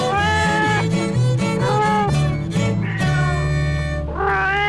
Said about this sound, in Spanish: ¡Tu gato! ¡Tu gatito está cumpliendo! ¿Años? ¿Meses? Ahí está un gatito cumplidor.